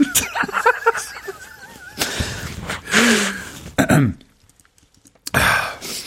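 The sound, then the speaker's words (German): Someone blows their nose into a disinfectant wipe instead of a tissue, several loud, rough bursts of air and snorting separated by brief pauses, with no talking. “Muss mir mit einem Desinfektionstuch die Nase putzen.”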